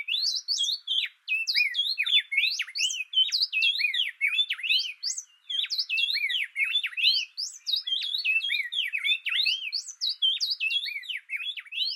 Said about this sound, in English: here the male and female rapidly alternate their songs. Sometimes this is happening so fast that to the human ear, it sounds like just one bird is singing. Here is a great example of an antiphonal duet being performed by a pair of Inca wrens in Peru.